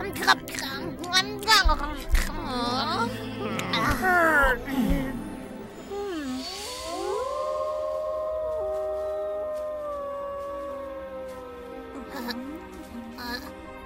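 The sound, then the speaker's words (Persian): Wolves howl in long, drawn-out wavering tones that rise and slowly fall, several voices overlapping; the first few seconds are busier, with yips and excited voices before the sustained howling takes over. “نه ترس، حتی اگه گرگان پیداشون بشه چند از فنه رو نشونشون میدیم و بهشون میگیم که ما کی هستیم.”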